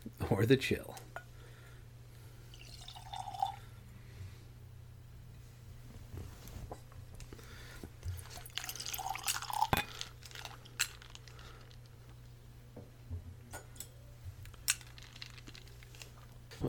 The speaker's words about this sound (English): with 2 teaspoons of water, which doesn't dent the color of this whiskey.